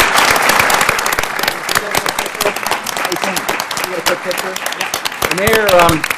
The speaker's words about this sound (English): Well, let's expand that thank you to include, behind every successful young person is a loving, caring adult, whether it's a parent, a mentor, a role model, a teacher. Let's give a round of applause to all those support people.